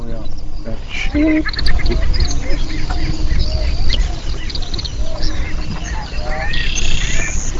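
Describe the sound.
Prairie chickens boom and cackle in the distance, hidden by fog over flat terrain in the morning mist, a dense chorus of low hooting and sharp chattering calls, two or three overlapping continuously, with faint voices of birders murmuring.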